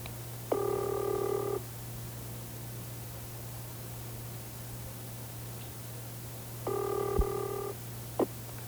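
Two long ringback tones sound over a telephone line on a call placed from Marion, Indiana, each about a second, spaced several seconds apart, with a steady low hum and faint hiss running underneath and no one speaking.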